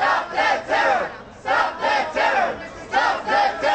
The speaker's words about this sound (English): Protesters outside the Tel Aviv court stood behind the police barricades, chanting the message that for many Israelis sums up their chief concern.